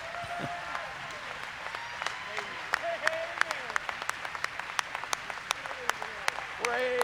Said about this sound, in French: Les gens applaudissent et se sont levés.